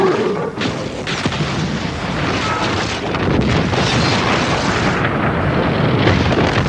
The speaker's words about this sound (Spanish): La parte central del muro salta en mil pedazos.